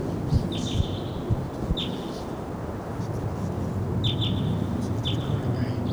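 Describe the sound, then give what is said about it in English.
A pair of wild birds in Ponderosa pines in a canyon call with short, high chirps, about half a dozen scattered irregularly over six seconds, some in quick pairs, heard over a steady rushing, rustling background noise. “Hear the birds, but don't see them.”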